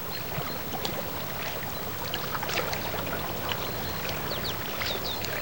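Water splashes and trickles steadily as a paddle dips, with faint chirps of birds scattered above the steady wash of the river. No one speaks.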